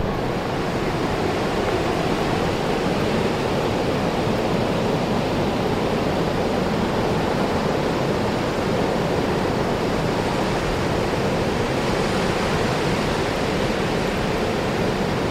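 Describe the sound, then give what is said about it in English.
A steady, loud roar of ocean surf washes continuously over the shore on a windy day, a dense rushing hiss with no distinct pauses between waves and no voices. “All right, if the wind can just please die down for a second, we might be able to hear the sound of the waves.”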